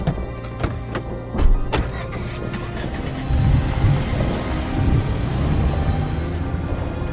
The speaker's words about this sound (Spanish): Cuando se desató la tormenta, los relámpagos iluminaron toda el área. Por momentos, con los estallidos de los truenos, parecía que el cielo se incendiaba en llamas.